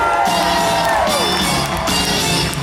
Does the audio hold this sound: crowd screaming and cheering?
yes